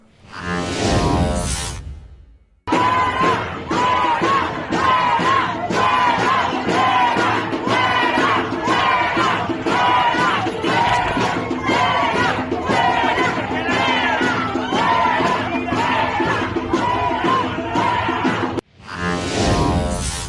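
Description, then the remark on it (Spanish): A large crowd in a video chants and shouts at the minister Batres in a steady, rhythmic beat, many voices shouting together in loud repeated bursts that carry on without pause for about fifteen seconds. “Es muy claro lo que están gritando”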